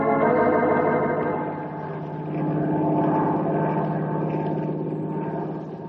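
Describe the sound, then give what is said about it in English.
A steady, droning seaplane propeller engine hums continuously in flight, with a low rumbling fundamental and rich harmonics, swelling slightly in loudness midway before holding even. It is Randy Sims' seaplane, carrying a grizzly bear to the North Timber Ridge country. No voices are heard. “Well, I hope he enjoys the plane ride all the way.”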